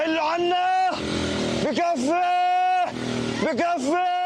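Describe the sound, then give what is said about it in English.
Congested traffic of Palestinians fleeing Gaza City, clogging a coastal road, with long, loud horn blasts repeating in overlapping bursts over a steady rumble of engines, with voices mixed into the crowded street noise. “Palestinians trying to flee the area clogging a coastal road.”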